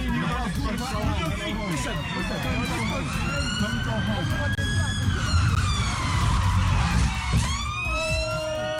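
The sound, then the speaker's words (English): A police car siren wails in long rising and falling sweeps, fairly loud, over a dense rumble of engine and road noise with indistinct voices mixed in, as the police car skids and spins down a slippery road in Gillingham, in a video posted on Facebook. “Nearly 4 million people have watched a video appearing to show a police car spinning down a road in Gillingham.”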